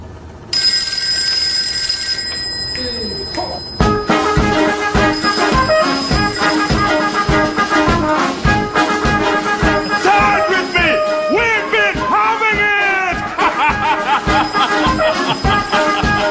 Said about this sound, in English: And then they tell me that you can get full songs playing when your phone rings. I will lay that one to rest right now as well.